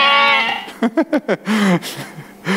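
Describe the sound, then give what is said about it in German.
A sheep bleats: a long wavering cry, a quick run of short stuttering bleats, then another drawn-out call, with no talking. “Tja, und so ging David wieder zurück zu seinen Schafen.”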